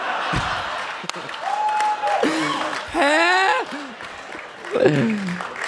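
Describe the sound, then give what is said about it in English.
A live audience claps steadily, a dense, roaring wash of applause broken by several loud, rising whoops and cheers from the crowd, with a sharp slap-like hit early on. “You're right to clap. A standing ovation.”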